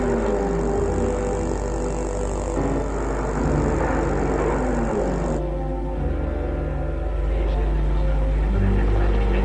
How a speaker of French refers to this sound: La voiture s'est arrêtée. C'est un taxi devant l'entrée d'un bel hôtel particulier, boulevard Malesherbes.